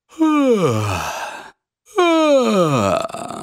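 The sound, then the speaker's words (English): Two long voiced yawns done as a voice exercise, each starting high at the top of the comfortable range and gliding smoothly down in pitch to a low, breathy finish, with a short pause between them. Fairly loud, no other sounds. “To do this exercise, simply start at the top of your most comfortable range and just yawn.”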